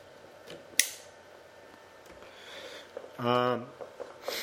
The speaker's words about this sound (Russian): Ну, зажигайся. Ну. По-моему, надо фитили реально зажигалки менять. Ха. Ну, не издевайся надо мной.